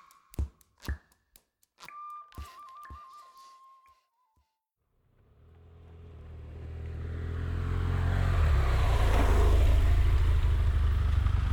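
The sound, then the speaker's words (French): Street ambience at the Pintreroux, La Serviane bus station: a few sharp knocks and a brief warbling beep, then a pause before a vehicle engine rumbles in and grows louder as it approaches and passes by. “Point de départ, station de bus, Pintreroux, La Serviane, en provenance de la station de métro, La Rose.”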